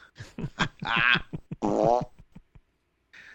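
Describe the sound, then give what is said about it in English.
A string of loud fart sound effects: quick short pops around two longer, wobbling, sputtering blasts, ending with a brief squeak after a pause. “I thought he was going to announce he had a fart or something.”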